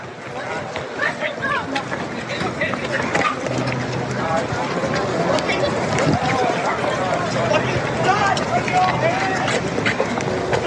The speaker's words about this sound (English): So he's walking up to this event and you can hear people sort of on the edge screaming, and you can kind of see that security is handling people, and then come the boos. Then come the boos.